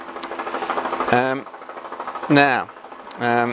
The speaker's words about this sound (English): So it's a chopper somewhere around the Blue Mountains. We often have choppers going up the canyons, checking up the canyons around here. Oh, it's coming up. Oh, yes, it's a police helicopter. So I wonder what's going on.